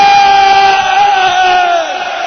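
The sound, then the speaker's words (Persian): A large crowd of men and women shouts the name "Hussein" together in unison on the eve of Tasua, loud and sustained for about two seconds before tapering slightly, with a dense wash of many voices. “زن و مرد دستا بیاد بالا، بیرونیا همه میخوام فریاد بزنن حسین.”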